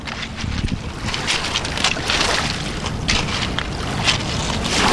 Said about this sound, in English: that is, a thin strip of pebbly shore in the centre of London, beside the Thames.